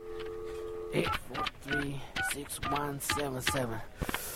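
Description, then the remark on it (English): A steady phone tone hums for a second, then a quick, clear run of touch-tone dialing beeps follows, with voice-like tones mixed through the dialing, as a call is dialed to the MOLD request line, which then rings. “8436177. Oh, come on, answer. Oh, good, it's ringing.”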